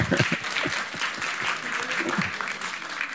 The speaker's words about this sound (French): notamment le pasteur et son épouse, que vous pouvez encore applaudir. Voilà, maintenant tu applaudis ton voisin aussi. C'est juste pour équilibrer un petit peu.